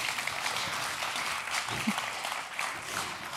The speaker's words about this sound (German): Einen großen Applaus.